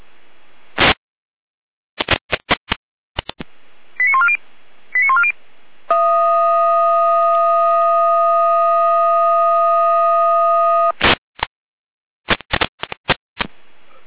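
A fire brigade dispatch centre's radio alerting sequence: sharp bursts of short beeps, two brief warbling chirps, then a long steady multi-tone signal lasting several seconds, followed by more rapid beeps. No speech.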